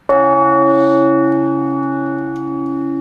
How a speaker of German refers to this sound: Ein mächtiger Ton, der jedem Menschen immer wieder ganz andere Gefühle auslöst. Warum tönt die Glocken überhaupt und warum fasziniert uns der Ton oder berührt uns der Ton mehr als andere Töne?